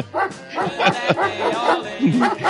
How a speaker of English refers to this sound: Play the dog bark for a minute.